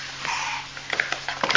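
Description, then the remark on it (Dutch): A young child's voice imitates a dog barking, making a few short, breathy yaps after a soft, drawn-out breath, the last one pitched highest. “Blaf, blaf, blaf, blaf, zegt de hond”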